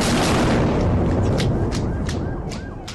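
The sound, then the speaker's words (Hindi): A loud, deep explosion of a vehicle laden with explosives in Ankara, Turkey, close to the Turkish parliament and military headquarters, rumbles through the whole recording and slowly fades, while car alarms begin wailing and pulsing in the background. No one speaks. “Ankara में ऐसा ही मंजर था जब विस्फोटकों से लदे एक वाहन में जोर का धमाका हुआ।”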